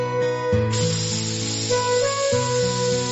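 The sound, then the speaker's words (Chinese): A steady hiss of an aerosol insecticide can spraying at ants that crawled in through a window, without pause for about three seconds, with soft background music humming underneath. “看我的，用杀虫剂来对付他们好”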